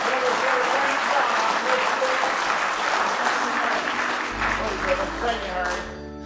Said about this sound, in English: Somebody say praise the Lord. Let's give him one more real good hand clap of praise.